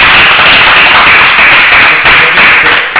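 Loud, dense applause from a crowd thanking a lawyer guest at the close of a broadcast, a steady wash of many overlapping hand claps with no pauses and no voices, holding an even intensity for the full three seconds.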